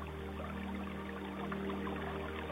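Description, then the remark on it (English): Steady, continuous rushing of water in a small creek, tumbling around rocks and over smooth stones and pebbles, an even wash of sound with no voices, holding at a constant moderate level throughout. “You hear the water rushing around the rocks.”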